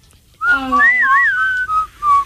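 A person whistles a short, wavering tune, the pitch sliding up and down before settling into two brief sustained notes, clear with no talking.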